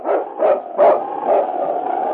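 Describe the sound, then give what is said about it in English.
Yukon King, the husky lead sled dog of the radio drama Challenge of the Yukon, barks loudly: three or four quick barks that stretch into a drawn-out, wavering yowl, with no talking. “It's Yukon King, swiftest and strongest lead dog of the Northwest, blazing the trail for Sergeant Preston of the Northwest Mounted Police in his relentless pursuit of lawbreakers.”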